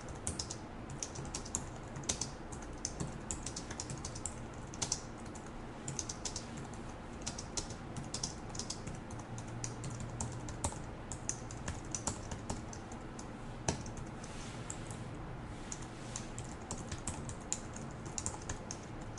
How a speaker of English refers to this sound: I'm going to start typing the following lines of code